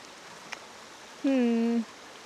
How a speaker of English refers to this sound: Well, I want to go over there, but I don't think I'll make it. My boots aren't quite high enough for how high the river is.